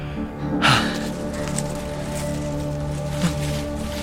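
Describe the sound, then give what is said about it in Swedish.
A short, sudden rustle of a fox moving through bushes, followed near the end by a fainter brush of leaves, all over a steady low droning hum. “Det var någon som rörde sig i buskarna bakom oss.”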